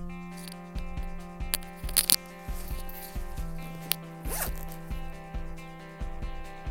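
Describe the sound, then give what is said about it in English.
A clothing zipper is drawn down slowly, scraping across an earphone microphone, a ratchety run of quick clicks and rasps lasting several seconds over a steady low hum. “That zip was me just pulling down the zip that is scrabbling out across the microphone because I'm using my earphone microphone thing.”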